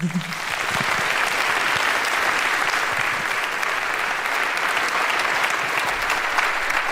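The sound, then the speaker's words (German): Sustained audience applause at a congress, welcoming two researchers to give a talk: a dense, steady wash of many hands clapping at an even, fairly loud level for about seven seconds, with no voices rising above it. “Begrüßt sie und ihren Leidensweg mit einem großen Applaus.”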